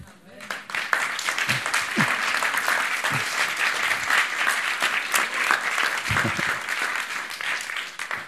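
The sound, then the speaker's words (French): A church audience applauds the pastor and his wife, sustained applause in a dense steady wash of many hands clapping at even loudness for several seconds, with a few low voice murmurs briefly underneath. “Et pas juste deux ou trois qui essayent de faire le job, notamment le pasteur et son épouse, que vous pouvez encore applaudir.”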